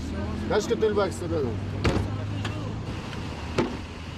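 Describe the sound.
A white Toyota Corolla idles with a steady low rumble at a police checkpoint while a few sharp mechanical clunks sound as a police officer opens its trunk. Indistinct voices murmur briefly.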